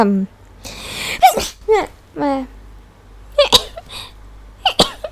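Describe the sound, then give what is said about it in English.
A person sneezes several times in close succession, sharp bursty sneezes with quick inhaled buildups between them, loud, with brief voiced sounds mixed in. “Oh yeah, why the fuck am I sneezing?”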